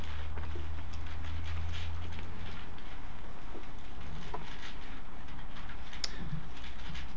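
Pages of books being turned to Psalm 150 in the book of Psalms, a scattered patter of soft, papery rustles and flicks overlapping one another above a steady low hum, with no voices.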